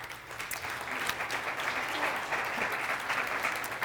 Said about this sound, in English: I want to give a big round of applause to my children's ministry team.